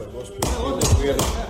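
Three dull, heavy blows land in quick succession, evenly spaced, as Republika Srpska interior minister Dragan Lukač hits opposition MP Draško Stanivuković of the Party of Democratic Progress in the Republika Srpska assembly, with a muffled commotion of voices underneath.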